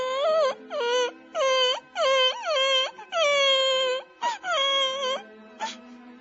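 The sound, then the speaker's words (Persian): A little boy who cannot climb up a snow-covered tree suddenly bursts into tears, wailing loudly in a run of long, quavering cries separated by brief catching breaths, with no talking. “پسرک یه دفعه زد زیر گریه.”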